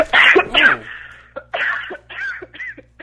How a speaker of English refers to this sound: Hello, are you alive? They totally just coughed. In my ear. I hope she wasn't dying as they were calling us.